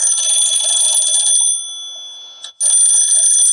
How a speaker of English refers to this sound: That is a old-timey telephone. Yes, it's a crank in the phone.